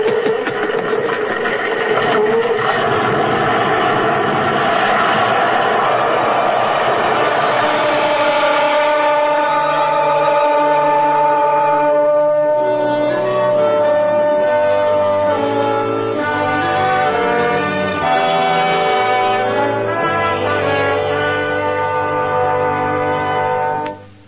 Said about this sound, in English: Holmes played that note on the bagpipes until the house crashed in upon itself.